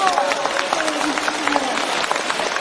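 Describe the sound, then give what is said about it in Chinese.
An audience claps steadily for the whole stretch, a dense, even wash of many hands at a fairly strong level, with a faint voice drifting underneath. “开饭店、啊、杀活鱼的，鼓掌。”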